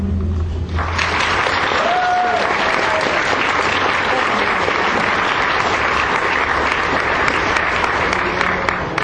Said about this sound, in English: A round of applause for JACW.